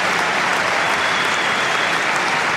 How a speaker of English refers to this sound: And the tweener always looks great and always gets a big round of applause and people love it.